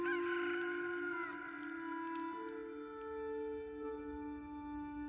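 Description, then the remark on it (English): A rooster crows loudly, one long drawn-out call that holds its strained, brassy pitch and shifts partway through. There is no talking, just a faint outdoor background. “Just then, a rooster crowed.”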